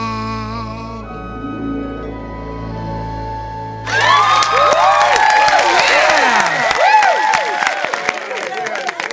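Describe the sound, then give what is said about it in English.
Sustained musical tones give way abruptly to a loud eruption of crowd cheering, with whoops and shouts over dense clapping that carries on to the end. “Even the applause-o-meter is crying.”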